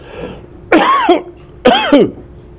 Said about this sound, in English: It's very bad if you can't control yourself. I can't control coughing. It's a very bad thing, very bad feeling. I'm not faking it.